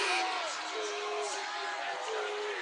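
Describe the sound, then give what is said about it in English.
A dense, steady roar of a Nevada arena crowd at a basketball game voicing disapproval of a traveling call, with a wash of overlapping voices and some rising whistles or shouts cutting through, loud and sustained throughout. “Nevada crowd doesn't like it behind us, but it was the right call.”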